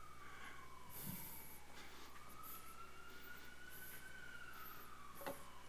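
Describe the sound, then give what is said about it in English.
An emergency vehicle siren wails, its tone sliding slowly up and down across the whole stretch, with a few faint clatters and steady background hum, and no one talking. “Father, we lift the circumstance that the sirens are about today, Father, the first responders, Lord.”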